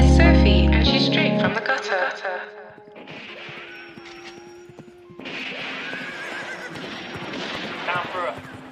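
A horse whinnies loudly, with more neighing and snorting over the next several seconds, while hooves clop and scuffle underneath the whole time.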